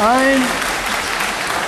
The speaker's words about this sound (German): Oi! Ja, ich höre schon den Jubeln.